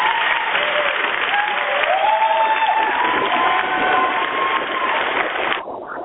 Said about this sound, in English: Let me just put some applause.